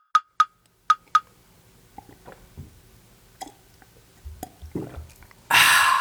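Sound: drinking water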